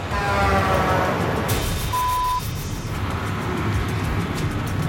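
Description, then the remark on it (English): A truck speeds past on a narrow road about a lane and a half wide, a heavy, steady rumble of engine and road noise with a brief high whine partway through. No one speaks. “These truck drivers, they're used to having the whole road to themselves, and they don't like to slow down.”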